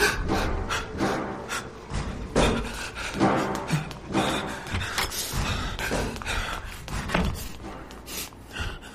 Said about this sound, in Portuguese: As gavetas dos corpos estão mexendo.